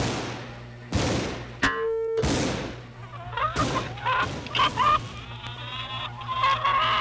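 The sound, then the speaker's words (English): A loud gunshot blast with a short burst of reports as a shot is fired at a turkey, followed by a flock of chickens squawking and clucking frantically, loud, for several seconds. “Sounds like you hit a few chickens.”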